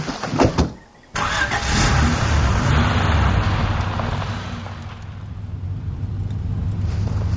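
A car engine turns over and catches with a sudden roar after a short pause, then settles into a steady rumble that carries on as the vehicle pulls away. No one speaks.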